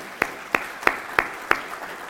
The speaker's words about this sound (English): A round of applause. Well done.